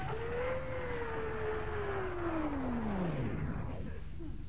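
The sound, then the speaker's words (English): Ship engines roar loudly and steadily, a dense rumbling drone whose whining tone slowly sinks in pitch as the machinery labors and begins to wind down while the engines are being stopped and the ship shudders. “Why is she shuddering like this? We ought to be able to stop by now. But we stop those blasted engines.”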